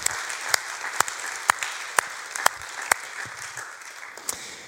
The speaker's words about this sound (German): Ich glaube, es ist ein riesen Applaus wert